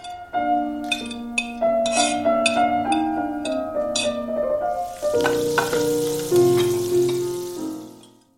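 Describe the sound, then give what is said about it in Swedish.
Potatoes deep-frying in hot fat to make French fries, a steady crackling sizzle that swells to a dense hiss in the second half, mixed with sustained tonal notes and a few light clinks. “Vad är det jag hör fräsa så i bakgrunden?”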